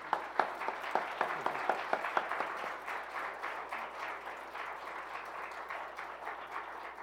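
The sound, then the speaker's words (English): An audience at a church service breaks into applause after a baptism. It starts with a few sharp, distinct claps that quickly swell into a dense, steady wash of clapping lasting several seconds, with no voices heard. “It's okay to clap.”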